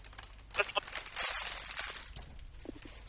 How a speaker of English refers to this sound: That was plastic wrinkling, because I was pulling the bag of cereal out and emptying the rest of the cereal into my bowl.